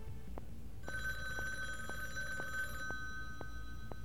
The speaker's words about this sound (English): Master Stuntman Jack Edison picks up a ringing phone